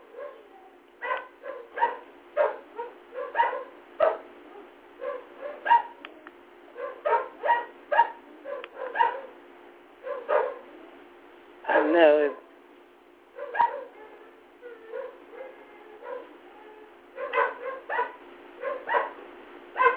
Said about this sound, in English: And then the inactives with the Saints are, please excuse me, my pooches are barking.